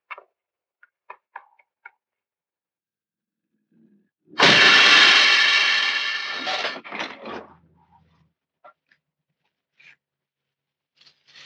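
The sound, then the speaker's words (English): A few soft ticks, then a sudden loud growling roar from a city bus, a low rumble resembling a cat growl, swells up as the bus shoots into frame, rumbles for a few seconds and fades out, followed by scattered faint clicks. “And then all of a sudden you hear this low rumble that sounds like a cat growl.”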